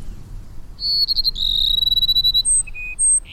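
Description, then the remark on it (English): A male Cassin's sparrow sings during courtship after the late summer rains in the Sonoran Desert: a quick high trill followed by several long, clear, high-pitched whistled notes at different pitches, heard alone over a faint low rumble. “Now the males sing their plaintive phrases almost nonstop.”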